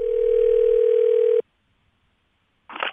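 A steady telephone dial tone hums for about a second and a half as a phone call is placed, then cuts off abruptly into silence before a short burst of noise near the end.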